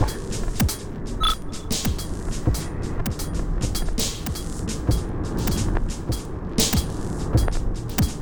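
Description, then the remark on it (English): Steady roar of road noise from two cars driving by in a quiet city in frost, with a gritty tire rumble and scattered sharp clicks and ticks throughout. No one speaks. “Two cars passed in the eternal now, making it three cars in about 6.5 minutes in the eternal now.”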